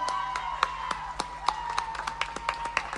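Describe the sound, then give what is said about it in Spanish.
Audience hand claps as a band member is introduced at the end of a show ring out in an uneven, fairly quick rhythm for about three seconds, over a faint, steady mid-pitched hum, with no voices. “Fuerte el aplauso.”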